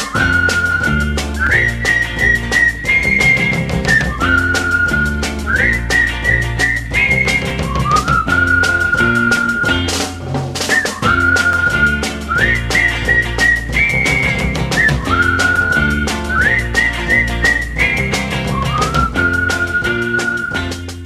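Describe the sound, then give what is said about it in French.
A bright whistled tune carries a short refrain over a full band with bass and steady drums, the catchy phrase played through twice, loud with no singing or talk. “on peut faire exception pour ce tout petit refrain, le sifflet des copains”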